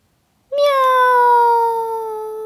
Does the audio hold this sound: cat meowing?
yes